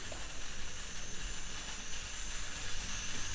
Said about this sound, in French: Ce son qu'on entend en fond, donc ces cigales, est-ce que c'est une source d'inspiration pour ton travail ?